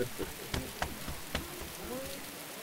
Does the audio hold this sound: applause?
no